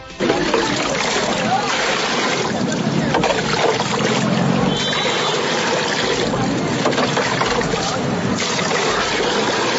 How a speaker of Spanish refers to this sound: Lo que usted escucha al fondo es el sonido de la cubeta con agua y el envase con las que las madres comunitarias se asean en un baño improvisado donde las puertas son bolsas plásticas negras y que están en plena vía pública.